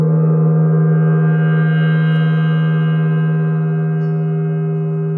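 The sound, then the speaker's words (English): A single meditation gong from the Mindfulness Bell phone app rings out loudly, its deep, layered hum sustaining and slowly fading over several seconds with no other sounds. “Now, to the sound of that gong, you breathe in slowly.”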